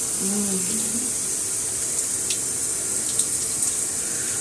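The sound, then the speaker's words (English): Steady hiss of running shower water, a continuous bright spray that never lets up, with a faint hummed voice briefly at the start. “Step up behind me. Feel the water on your back.”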